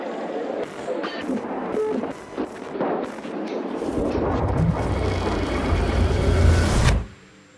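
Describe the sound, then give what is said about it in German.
A car engine roars amid clattering, banging construction-site noise, with sharp impacts in the first few seconds and a louder sustained rumble building before cutting off abruptly. “Das ist ein Auto und irgendwie eine Baustelle.”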